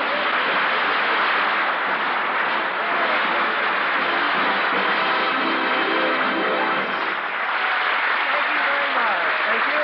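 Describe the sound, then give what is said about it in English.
Sustained applause on the Red Skelton Christmas Eve radio show, a dense, even roar of clapping from a large crowd lasting throughout, with the cast applauding too, faint voices mixed underneath and a slightly muffled, band-limited quality. “They're all over the cast is applauding.”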